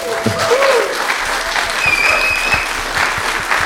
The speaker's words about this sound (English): Well, I want to ask everyone to give a very, very warm round of applause to Rana Mitter.